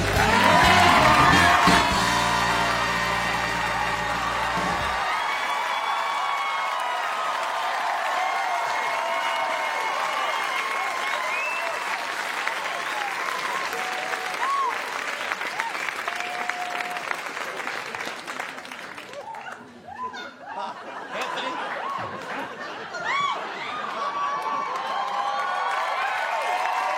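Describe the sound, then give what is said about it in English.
A large audience bursts into sustained applause with cheers and whoops as a guest is welcomed onto a show, a dense roar of clapping that holds steady for nearly half a minute, briefly thinning before surging again. A short musical sting opens it. “God, a crowd can't get over it either.”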